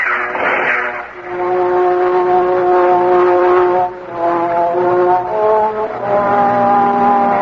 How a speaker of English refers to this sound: There's some tanks coming.